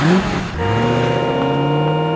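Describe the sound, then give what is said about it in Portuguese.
Motor traffic on a street: a loud vehicle engine drones, its pitch dropping and shifting briefly before settling into a steady hum. No voices. “Muito carro nas ruas é sinal de muito gás carbônico, que não faz bem à saúde.”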